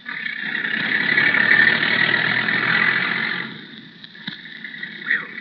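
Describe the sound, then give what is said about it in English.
A car engine rumbles steadily for a few seconds at midnight as the car backs out, then fades as the vehicle moves off, leaving quieter background noise and a couple of faint clicks. “By Jove, they're backing out.”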